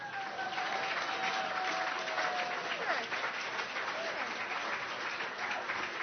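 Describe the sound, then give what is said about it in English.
A crowd claps steadily in sustained, dense applause when asked whether they are happy the election is over. A faint whistle-like tone glides downward through it, with a murmur of voices mixed in. “There's a few people that aren't clapping.”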